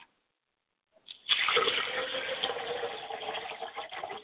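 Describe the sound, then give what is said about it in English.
A glass of water is poured out as a libation in a steady splashing stream that starts abruptly after about a second of silence and continues unbroken to the end, with no voices. “I like to pour a glass of water for my mother, and I say, Mother, quench your thirst as you come down the middle passes and drink well.”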